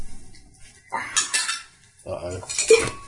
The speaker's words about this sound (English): He's lost the cameras. He's knocked over a tin of something. Oh, I said, don't drink. He's knocked over a drink.